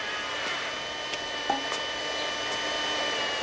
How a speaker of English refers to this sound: runs a vacuum cleaner-shaped mechanism over the grass